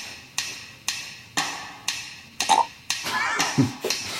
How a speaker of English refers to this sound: What are these miscellaneous sounds? That's a good question. Burp.